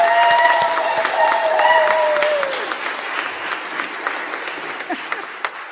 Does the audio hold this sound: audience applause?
yes